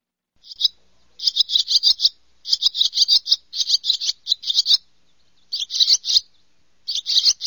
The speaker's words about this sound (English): another bird, a barn swallow, picked out. Now, that is not here all year round. Am I correct? That's very correct. Yes, they like to eat flying insects, which we love birds that eat mosquitoes.